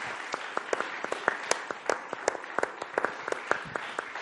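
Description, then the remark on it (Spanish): An audience applauds steadily, a dense patter of many hands clapping with sharp individual claps poking out, sustained at a moderate level without any voices over it. “Un aplauso, ¿no? Por favor, aquí a los que nos acompañan. Un aplauso.”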